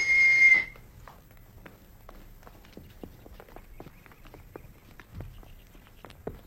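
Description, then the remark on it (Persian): A single sharp, loud whistle blast at a boarding school calls students to line up, followed by a shuffle of many footsteps scattering and settling across a hard floor. “لطفاً با صدای سوت منظم به صف بایستید.”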